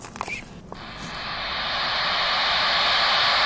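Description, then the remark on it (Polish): A white-noise plush teddy bear, a cuddly toy that hums, is switched on and gives off a steady shushing hiss that swells in after a few soft handling clicks, then holds loud and even, like rushing air. “Taka przytulanka, która szumi.”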